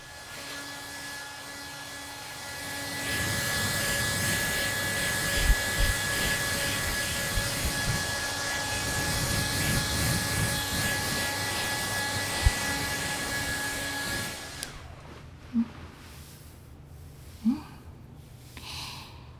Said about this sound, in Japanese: さて、前髪の水気もあらかた取れましたでしょうか。続いて、ドライヤーで乾かします。